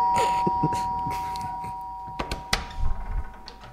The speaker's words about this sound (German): Neulich in der Oberbaumstraße. Meistens klingeln wir beim fetten Mann. Also eigentlich immer.